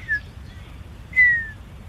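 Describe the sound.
Two notes whistled live by a person imitate a bird call: a short chirp, then after a pause a longer, clearer note that slides slightly downward and fades. Fairly loud over faint background hum.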